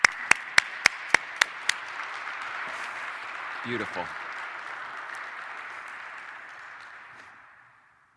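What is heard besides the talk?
audience clapping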